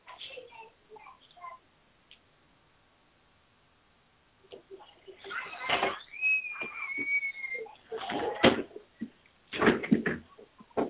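A door is closed: a drawn-out hinge creak, then several knocks and thuds as it shuts. A faint voice murmurs briefly before a short pause.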